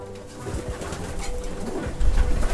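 Several breeding pigeons coo softly and continuously, their low throaty calls overlapping in a loft in the back garden of a suburban home, with a bit of rustling and a louder burst of low thumping near the end.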